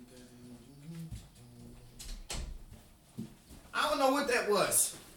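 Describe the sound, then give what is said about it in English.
A car door thuds shut in a quick, muffled double knock partway through, set against low background sounds, with a burst of louder, brighter noise following near the end. “I heard the freaking car door.”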